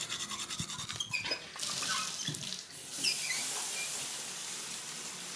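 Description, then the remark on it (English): Water runs from a tap in a steady hiss, about a pint drawn for morning coffee, with a few clinks and knocks early on and the stream's tone shifting as it splashes into a sink or container, no voices. “a pint of water in the coffee”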